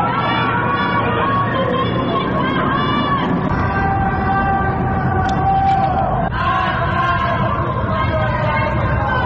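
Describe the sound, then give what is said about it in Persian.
A large crowd chants anti-government slogans on Saturday night in Tehran (Ekbatan, Chitgar, Saadat Abad), Karaj and Shiraz, Iran, after news of Armita Geravand's death, in loud, sustained unison, many voices blending into a steady roar that carries without pause, with a brief shift in the chant partway through. “شامگاه شنبه در پی اعلام خبر جان باختن آرمیتا گراوند، مردم در برخی مناطق تهران از جمله اکباتان، چیتگر و سعادت آباد و همچنین در شهرهای کرج و شیراز اقدام به سر دادن شعارهای ضد حکومتی از جمله مرگ بر حکومت بچه کش کردند.”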